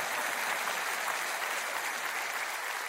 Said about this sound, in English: Clap your hands.